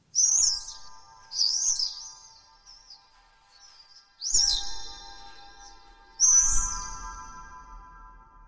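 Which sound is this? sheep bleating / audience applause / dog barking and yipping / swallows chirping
swallows chirping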